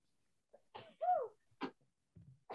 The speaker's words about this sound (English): Bless you.